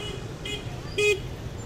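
Steady rumble of heavy street traffic on the way to a market, with a faint brief beep early on and then a clear, short car horn toot before the roar of vehicles continues.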